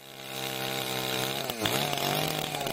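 A chainsaw cutting wood buzzes loudly and steadily in the forested municipality of Istočni Drvar on Klekovača mountain, Bosnia and Herzegovina, its engine pitch dipping sharply midway as it bites into wood, then climbing back to a high, even whine. No voices are heard.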